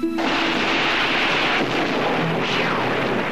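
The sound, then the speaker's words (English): Thunder rumbles loudly and continuously through a storm high in the mountains, a dense roaring wash of sound with no pauses, enveloping for the whole stretch. “Later, high in the mountains again, they're caught in a storm.”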